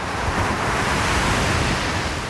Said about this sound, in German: Wenn eine Elefantenherde vorbeiläuft, dann sind das so große Wellen, die dann eben sehr massiv aufs Ufer brechen.